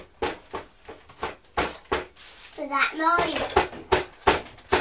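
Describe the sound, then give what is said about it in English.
A child bangs a fist on a high chair tray in a quick series of sharp, loud thumps, with a young child's high babbling voice chiming in partway through. “It's you banging your fist on the high chair table.”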